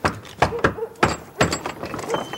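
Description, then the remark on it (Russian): Several firm knocks on a wooden apartment door, about four thuds in an uneven rhythm, moderately loud, with faint room noise between them. “Гоцман стучит в дверь квартиры Норы.”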